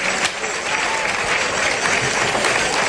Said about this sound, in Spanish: Sí, la pena es que estaba muy cerca y la verdad es que los aplausos han durado poco, ¿no? Si el toro llega a caer allí lejos, quizá recorrer toda la plaza hubiera recogido más aplausos.